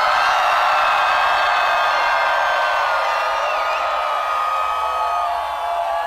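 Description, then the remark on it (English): A large audience with hands raised high screams and cheers loudly on a count of three for a group photo, continuously for several seconds: a dense wall of high-pitched voices with occasional whoops rising above it, steady throughout. “So, what I want you guys to do is to put your hands up as high as you can in the air. And on the count of three, scream as loud as you can.”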